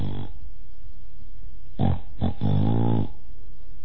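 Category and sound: vocal imitation, voice imitating snoring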